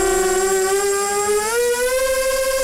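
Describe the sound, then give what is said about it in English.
A drone flying past and over the windmills of the village of Kinderdijk, South Holland, gives a steady, high-pitched buzz with a whining tone that slowly rises in pitch, rich in harmonics, continuous and fairly loud with no voices. “er alleen dit jaar al 200 drones langs en over hun molens vlogen en filmden”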